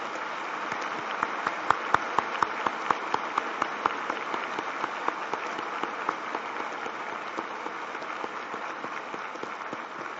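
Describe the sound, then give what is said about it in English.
A large audience applauds baptism candidates standing to make a public declaration of their dedication to Jehovah, steadily for about ten seconds, a dense wash of clapping with a few sharper individual claps standing out early on, heard alone without talk. “So do you think this crowd appreciates you?”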